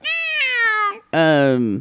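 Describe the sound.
A human voice imitates a cat with two drawn-out, loud meows, the first sliding downward, then a brief gap before a higher, strained second meow.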